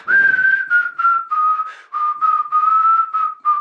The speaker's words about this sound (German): Da singt sie das Lied von der Nachtigall.